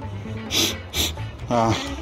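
A person sniffs sharply twice in quick succession, then draws a longer, breathy inhale, with a faint low voice murmuring under the last sniff.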